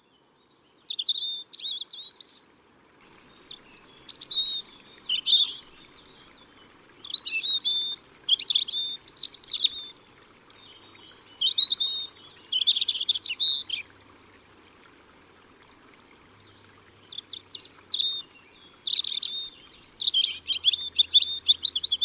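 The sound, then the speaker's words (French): A European robin sings high, thin, warbling phrases in a series of short bursts separated by brief pauses, clear, with no voices present. “Je reviens donc sur le côté migrateur de notre petit oiseau. En France, notre rouge-gorge est classé sédentaire, c'est-à-dire qu'il est là à peu près toute l'année.”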